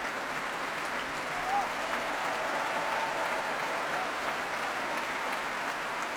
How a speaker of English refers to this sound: The cheers you can hear as Zachary Oromo brings each section of his orchestra to their feet. And not surprisingly, the loudest did go to those two timpani players I mentioned earlier.